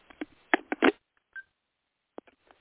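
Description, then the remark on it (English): A cluster of sharp clicks and rattles as a speaker switches phones, then a single short electronic beep, followed by a few scattered taps after a brief pause. “And I'm switching phones.”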